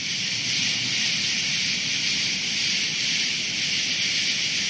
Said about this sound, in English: Thousands of tree frogs, what sound like Cope's gray tree frogs.